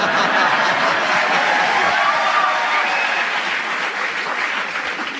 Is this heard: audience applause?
yes